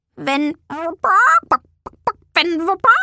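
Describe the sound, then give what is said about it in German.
A human voice imitates hens cackling excitedly: a string of about six quick, high, wavering clucks with rising and falling pitch, loud, separated by short pauses. “Wenn wir es euch doch sagen, gackerten die Hühner noch aufgeregter.”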